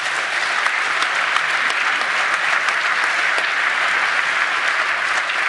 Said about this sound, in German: Okay, das freut mich, dass ihr klatscht, weil das aus meiner Sicht eine Sache ist, die ein bisschen untergegangen ist in dieser ganzen Debatte.